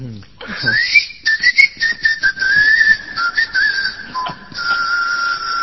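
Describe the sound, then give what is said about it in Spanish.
A thin, sustained whistling tone, like wind passing through small holes an architect placed in the Colossus of Nemón statue, wavers and glides in pitch for several seconds, fairly loud, with brief breaks and a faint airy hiss underneath. “Otros dicen que era el viento que pasaba por algunos agujeritos que el arquitecto había puesto con toda astucia, y el coloso de Nemón chiflaba.”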